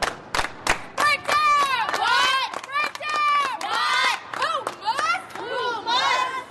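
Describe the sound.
A high school basketball team, led by a 15-year-old player, shouts a rhythmic team cheer in unison before their semifinal game against the undefeated Cottage Hill Mustangs, loud and high-pitched, with a few sharp claps at the start before the chanting builds.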